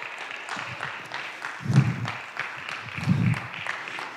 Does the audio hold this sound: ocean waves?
no